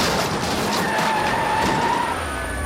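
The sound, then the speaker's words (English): Car tires screech in a sustained, loud skid lasting a couple of seconds, a high squealing tone over a broad roar of engine and road noise, as a police ground unit moves in for a pit maneuver on a suspect's car. “A ground unit moves in for the pit maneuver.”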